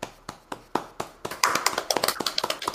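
Hand clapping: sharp, evenly spaced claps at a moderate pace, then a louder, quicker burst of overlapping claps as more hands join in. No voices.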